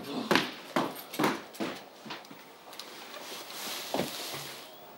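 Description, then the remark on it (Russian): Dogs bark in a quick, irregular burst of sharp yelps, then fall quiet before one more bark sounds, all over a steady noisy background. “Погоню! Экспедицию! С собаками, пистолетами!”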